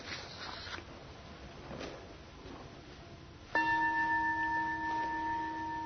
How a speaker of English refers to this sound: And now I think we need to close with a final meditation. So I will sound the bell to begin it, and then I will give just a very brief guidance as we finish.